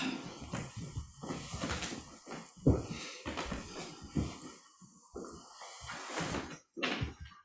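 A dog makes noise during a group sitting quietly together: a run of short, breathy, scuffling bursts in an uneven rhythm, with a few sharper knocks, and no one talking.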